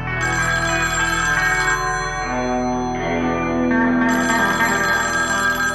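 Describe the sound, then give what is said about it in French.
A telephone rings in a military commander's barracks in Culiacán with a bright, warbling electronic ringtone that repeats in bursts, loud and steady over a low hum, with no voices heard. “Dans sa caserne de Culiacán, le commandante reçoit un nouvel appel.”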